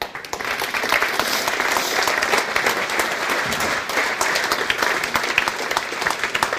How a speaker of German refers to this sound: Herzlichen Applaus.